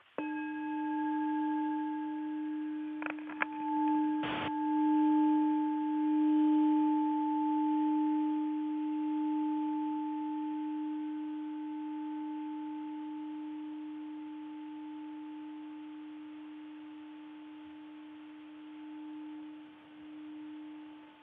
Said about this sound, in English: And yeah, you could use a literal bell, or you could just make anything your prompt. So I'll invite a closure with the sound of a bell.